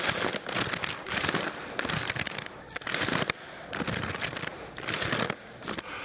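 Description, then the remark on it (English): Loud crinkling of a paper bag in repeated bursts, like someone breathing in and out of it, with crackly rustling filling the whole few seconds and no talking. “God doesn't breathe through a paper bag to get his anxiety level down.”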